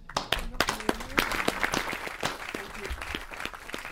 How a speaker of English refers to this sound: Everybody give a round of applause for those two teams.